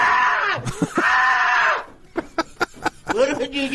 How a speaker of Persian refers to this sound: به هر حال ظاهرن خیلی ناراحت بود و ترسید و جیغش رو هم شنیدیم.